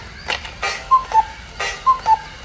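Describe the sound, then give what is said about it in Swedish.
A voice mimics a cuckoo clock starting up: a few dry mouth clicks like ticking, then two whistled two-note cuckoo calls, each pair stepping slightly down in pitch. “Detta är ju helt makalöst likt ett gökur”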